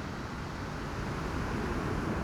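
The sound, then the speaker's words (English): A steady, continuous wash of ocean surf at a beach at night under a full moon, a broad hissing roar that holds an even level throughout without distinct breaking crashes. No voices are present. “Hear the waves.”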